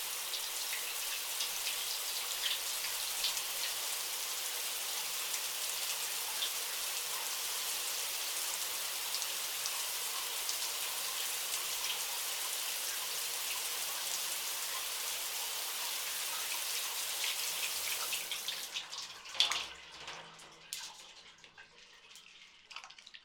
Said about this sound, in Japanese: 久しく洗ってなかったからか、なかなか泡立たないね。仕方ない。一度シャワーで流して、もう一度シャンプーをつけよう。